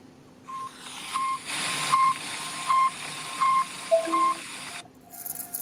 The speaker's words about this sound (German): Ein rückwärtsfahrendes Auto, also LKW.